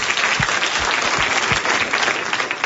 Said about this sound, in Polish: Pięknie, brawa. Brawa.